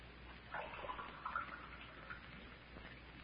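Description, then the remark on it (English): Water is poured into a glass for someone to drink: a soft, steady splashing trickle lasting a few seconds, with faint gurgling tones rising slightly in pitch as it fills. No voices. “could I have a drink of water? Oh, sure thing.”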